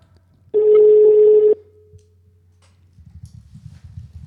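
A single loud telephone ringing tone from an outgoing call that reaches a voicemail sounds for about a second, steady and buzzy, then cuts off, leaving a faint low rumble of background noise.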